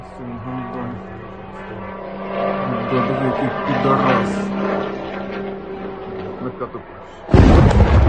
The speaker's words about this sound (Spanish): Según los medios ucranianos, dos nuevas explosiones se han registrado durante la mañana de hoy en Kiev. Las explosiones se escucharon desde distintos puntos de la capital, ataques que se han incrementado durante las últimas semanas